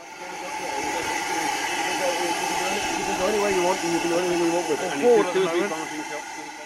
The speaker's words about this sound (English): was down at the Avon Valley Railway in Bitton last week for a rare treat to see a restoration of one of the world's first locomotives, Stephenson's famous Rocket, being put through its paces.